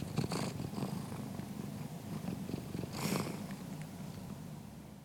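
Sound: cat purring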